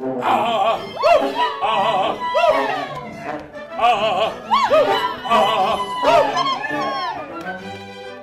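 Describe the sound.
Several opera singers sing loudly together in swooping, wavering phrases that sound like barks, crows and howls, as performers playing a donkey, dog, cat and rooster imitate the animals in a lively, overlapping ensemble.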